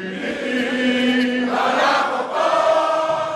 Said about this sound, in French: La foule a alors crié, chanté, avant d'entonner en chœur l'hymne national.